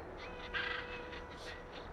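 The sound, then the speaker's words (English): Several harsh, cawing calls from a flock of black birds circling in the sky ring out in quick succession over a steady background hiss, with no one speaking. “From over the top of the General Motors building, I watched a flock of black birds circling in the sky.”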